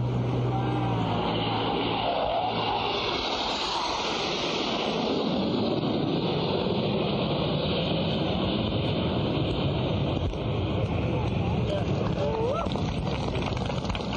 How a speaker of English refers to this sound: Here's the flyover.